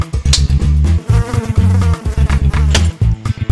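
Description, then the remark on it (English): A loud mosquito buzzing drones in choppy bursts, cutting out briefly several times before resuming, with no voices present. “Mosquito Terminator.”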